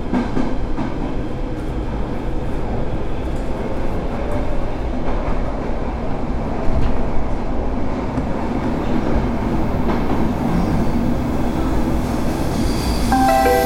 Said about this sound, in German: Zwischen Östermalmstor und Hauptbahnhof T-Zentralen sind wir auf dem tiefsten Streckenabschnitt des Stockholmer U-Bahn-Netzes überhaupt. Genau 34,67 Meter unter dem Meer.